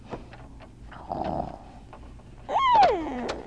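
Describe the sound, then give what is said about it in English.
A cat gives a single clear meow that falls in pitch, preceded by a brief low, rough rumble and a few soft clicks against a quiet background. “It's a kitty.”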